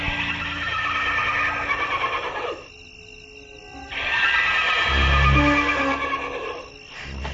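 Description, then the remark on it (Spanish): Agitated horses whinny and snort loudly, a harsh burst of calls fading into a brief lull before another rough, noisy outcry swells back over a low rumble. “Y la nube fantasmagórica de colores blanco y negro giraba a su alrededor y los caballos se negaban a avanzar.”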